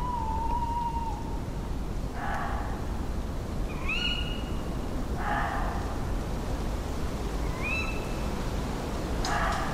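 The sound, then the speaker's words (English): A fox barks at night in Foxley Wood in a bitter, cold November wind, in short, harsh bursts spaced a few seconds apart, heard over steady wind noise, with a few thinner rising calls in between. “In this minute of slow radio, you'll hear the sounds of a bitter November wind, the owls, and a wonderful fox barking through the cold night.”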